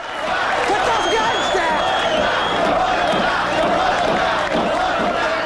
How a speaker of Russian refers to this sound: Толпа вокруг банка приветствует его.